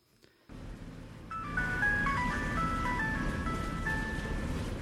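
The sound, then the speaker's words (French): A thin, tinny electronic melody plays from a Brazilian passenger's mobile phone loudspeaker over the steady low rumble of a moving bus engine, starting softly and continuing as a simple repeating tune. “Tu vas couper ton haut-parleur de portable, connard de brésilien?”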